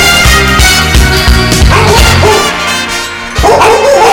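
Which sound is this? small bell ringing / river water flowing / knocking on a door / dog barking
dog barking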